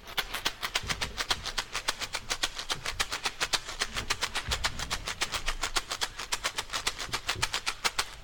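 A chocalho shaker rattles in a steady, fast rhythm of crisp, hissy bursts, about five or six per second, with no voices, over a faint low rumble throughout.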